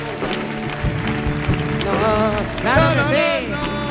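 A crowd applauds in a dense, steady wash of clapping that lasts throughout, with swooping pitched tones, like music or cheering, rising above it in the second half.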